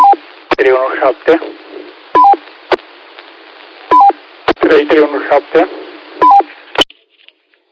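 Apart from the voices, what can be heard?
radio roger beep tones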